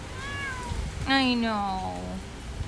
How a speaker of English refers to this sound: So it is a wonderful, rainy Friday morning. I am standing under the overhang at Companion Animal Hospital in Philadelphia. Ahab's a fluffy, generally good-natured little tuxedo cat, but this morning, she was not happy.